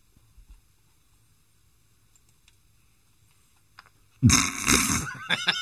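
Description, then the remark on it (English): After about four seconds of near silence, a voice abruptly launches into a loud, rough snorting and sniffing noise, a wet nasal snuffling imitation of snorfling that continues to the end. “Snorfling is a combination of sniffing, snorting, and truffling”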